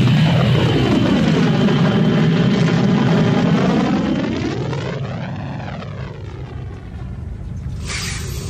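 A spaceship's engines roar loudly and steadily during liftoff, with whining tones that sweep down and back up, then ease slightly before a brief bright hiss near the end.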